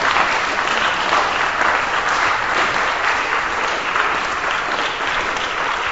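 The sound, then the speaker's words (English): A sustained burst of audience applause for the entertainers at a festival, dense and even, with many hands clapping at once throughout, loud with no break or voices standing out. “So can you please give another round of applause for our entertainers”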